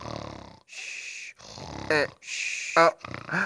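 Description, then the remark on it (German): A voice imitates snoring: several rasping, breathy snorts in a row, with two sharper, buzzing grunts standing out, fairly loud and without any words. “Jetzt wird mir alles klar. Ich hab geschnarcht.”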